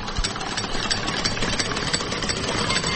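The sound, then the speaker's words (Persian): A car engine idling with a steady, continuous rumble and a faint rapid low pulsing, holding an even loudness throughout with no voices over it. “نام خدا خوب ماشین است.”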